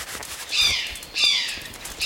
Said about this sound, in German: Ha, den Ruf kenne ich. Das war ein Eichelhäher. Das ist dieser hübsche rotbraune Vogel. Der hat so schwarze und hellblaue Streifen an den Flügeln. Ich habe mal gelesen, dass er zur Familie der Raben gehört.